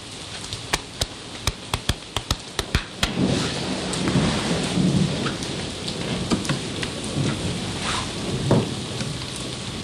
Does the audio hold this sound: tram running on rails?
no